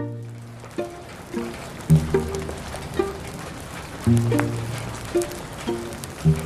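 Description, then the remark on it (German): Steady rain falls from thick clouds in a courtyard, beading off rain jackets, pattering as a continuous soft hiss with scattered drips, while low humming tones swell and fade over it every second or so. “Der Regen fiel immer noch aus dicken Wolken vom Himmel, perlte aber an den Regenjacken ab.”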